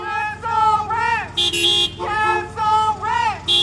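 Several car horns from a protest caravan of cars honking through a city blast long and overlapping, one after another, loud amid busy street noise, with a brief hissing burst between honks.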